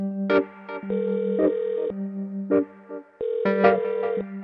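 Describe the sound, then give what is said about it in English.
A phone ringtone plays clearly and alone before voicemail picks up, a repeating melodic electronic tone pattern with steady sustained notes and short bright accents, cycling twice over a few seconds. “So literally, when I was in the final stages of making this episode, I was away from my phone for a split second and something unexpected happened.”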